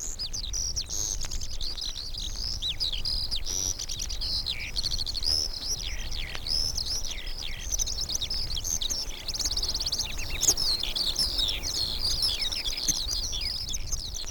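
Continuous high-pitched warbling of field songbirds singing in flight as they rise into the morning sky after taking off, a rapid, unbroken stream of trills and chirps overhead with a low outdoor rumble beneath and no voices.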